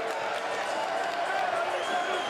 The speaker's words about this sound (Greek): Ανταποδίδει το χειροκρότημα στον κόσμο του Ολυμπιακού.